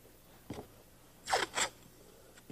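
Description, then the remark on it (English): Masking tape is pulled off the roll in two quick, rasping rips, with a couple of soft taps of it being pressed onto paper before and after, while making designs on paper with the tape. “I was watching these kids, and they had masking tape, and they were doing something like this. They were making designs with the masking tape.”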